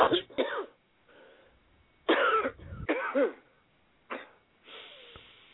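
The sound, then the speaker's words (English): A series of deep, harsh coughs from a person told to cough during a healing prayer, coming in several rough bursts separated by short pauses, with some throat-clearing and breathy rasping between them. “Now take one deep cough and he'll burn the rest of them out.”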